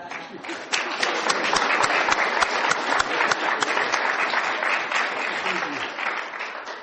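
An audience breaks into sustained applause for Mr. LaRouche's answer, a dense, steady wash of many hands clapping that stays loud and even for several seconds with no voices over it.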